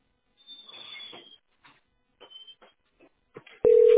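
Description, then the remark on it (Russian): Scattered soft mechanical rustles and clicks over a quiet line while on hold with the Teploenergosbyt SPB company's billing centre, then a loud, steady telephone ringing tone cuts in abruptly near the end and holds. “Ну, сейчас звонит, а ваша позиция 30.”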